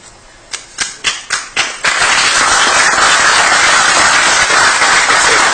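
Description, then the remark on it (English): A handful of sharp, separate claps ring out first, then quickly build into a loud, dense burst of applause from the public at a council meeting after a speaker's comments, carrying on steadily to the end, with no voices over it. “Are there no clapping, please?”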